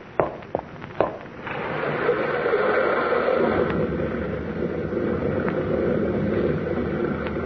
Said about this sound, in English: Old river's undercutting the cliffs, being it? Yeah. Big rock fall about half mile up the gorge there.